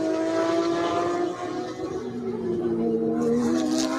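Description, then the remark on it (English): Loud, continuous engine roar with whining tones that rise and fall as race cars rev and pass by on a track, with no talking. Cars are battling for 7th, 8th and 9th place, including Lou Wei's purple and black R&B Racing car, the Pro-Am pole sitter, under pressure from the striped number 86 car. “That battle for 7th, 8th and 9th heating up with Lou Wei in the R&B Racing purple and black car.”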